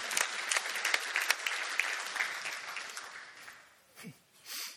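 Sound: audience applause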